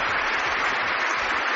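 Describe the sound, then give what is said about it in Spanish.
Steady applause from a large crowd of faithful, clergy, nuns and cardinals packing St. Peter's Basilica in the Vatican at the end of Benedict XVI's last Mass, a dense, even wash of many hands clapping at constant loudness throughout, with no voices standing out. “Lo que ha empezado siendo emocionante ha terminado con estos aplausos.”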